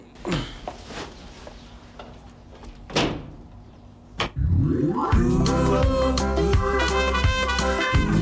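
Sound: door opening and closing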